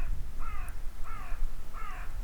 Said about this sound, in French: Vous l'entendez, le corbeau, auditeur? Rien n'est silence, tout est son.